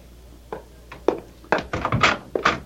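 knocking

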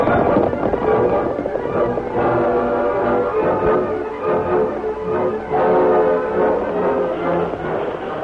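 horses galloping

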